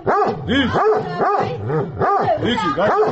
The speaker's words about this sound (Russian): … пытается успокоить разъяренную кавказскую овчарку.